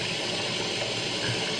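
waterfalls

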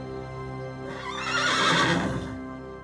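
horse neighing

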